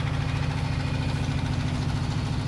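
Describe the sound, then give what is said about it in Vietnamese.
A slow farm tractor-cart engine runs loudly and steadily as it passes by, a deep continuous rumble with a throbbing, chugging pulse and no voices. “Tiếp tục nha các bạn, cái xe máy cày nó kêu lớn tiếng quá, xe cải tiến.”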